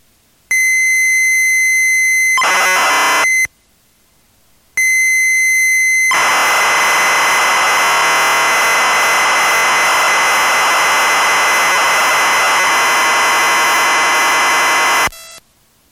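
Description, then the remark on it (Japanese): A computer data-tape loading signal carrying a keyboard lesson program, loaded in BASIC mode: a steady, piercing leader tone, a short warbling burst, a brief silence, then the tone returns and gives way to a long, loud, harsh screeching stream of data. “これからはキーボードレッスンのプログラムが入っています。ベーシックモードにしてロードしてください。”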